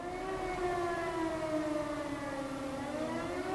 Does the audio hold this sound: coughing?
no